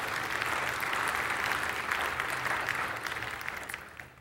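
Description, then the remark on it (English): An audience applauds steadily, a dense wash of many hands clapping at a fairly even loudness, easing off slightly toward the end. “Yeah, you can clap.”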